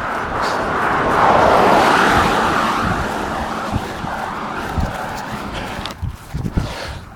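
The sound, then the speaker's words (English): A couple of cars pass on a road by a causeway parking lot in the morning, a broad whooshing roar that swells and then fades, followed by scattered footsteps of runners across the street and small knocks. “So there goes a couple cars.”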